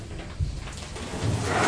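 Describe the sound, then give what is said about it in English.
A cupboard door with a single pane of glass is moved open or shut, a short knock followed by a rattly sliding scrape that builds slightly louder toward the end. “This is like the drawer at home, isn't it? It's glass, but this one only has one pane of glass.”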